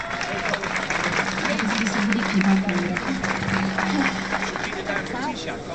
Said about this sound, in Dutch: Ik vraag jullie om in ieder geval een hartelijk applaus te geven, zodat zij de kracht krijgt om haar verhaal te doen voor jullie. Even graag hartelijk applaus.